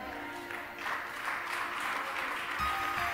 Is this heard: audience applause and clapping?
yes